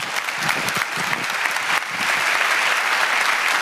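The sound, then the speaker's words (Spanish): Steady, dense audience applause greets Don Fabio Attar, the new Rector Major of the Salesians, a broad crackling wash of many hands clapping at once, holding loud and even throughout with no voices rising above it. “En medio de aplausos, el nuevo rector mayor de los salesianos, Don Fabio Attar.”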